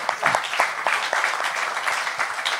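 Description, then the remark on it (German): Applause from a group, a dense steady patter of many hands clapping at moderate loudness for a few seconds, with no clear voices over it. “Applaus.”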